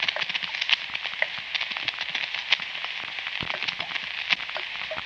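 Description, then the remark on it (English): Water dripping from a shower faucet in a steady, busy patter of tiny taps, with a few sharper drops standing out at irregular moments. No voices accompany the continuous wet ticking. “I tried to fix it. All that happened was I got the sleeves of my pajamas stopping. And it kept right on dripping.”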